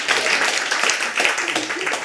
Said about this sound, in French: qu'on peut applaudir très fort pour l'organisation de la journée et pour faire tout le suivi.